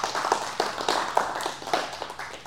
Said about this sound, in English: So let's just give a hand clap again for them.